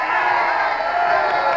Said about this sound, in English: Let's hear a big cheer for the Ole Miss Rebels.